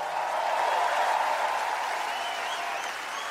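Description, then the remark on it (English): An audience applauds steadily for the bass guitarist who has just been introduced, a dense wash of many hands clapping at once, loud and sustained without pauses for the whole moment. “Give him a bigger round of applause than that.”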